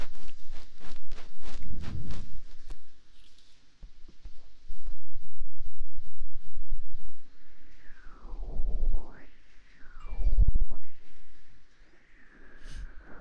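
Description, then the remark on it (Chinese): Rain dripping outside taps irregularly in quick, sharp clicks, joined by a few heavy low thuds and, later, some sliding tones and a steady high note. No one speaks. “外面下雨的声音滴答滴答的”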